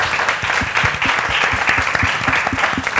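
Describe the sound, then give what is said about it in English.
An audience applauding steadily, dense overlapping claps forming a loud, sustained wash of sound that holds for the full few seconds without fading. “Big round of applause.”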